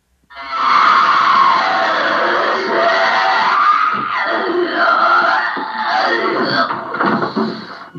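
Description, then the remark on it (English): A loud, harsh scream held for several seconds, strained and rasping, breaking into rougher growling cries near the end; the final scream during an exorcism, said to voice the words "She is coming." “And the final scream that they let out was, "She is coming."”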